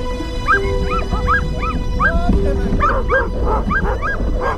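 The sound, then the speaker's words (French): A pack of sled dogs pulling a dog sled for three police officers on a two-day trek to a trapper's cabin in winter barks and yips excitedly in quick overlapping bursts, with some high whining howls mixed in, continuous over a steady rumbling background. “Trois agents partent alors pour une randonnée de 2 jours en traîneau à chien jusqu'à la cabane du trappeur.”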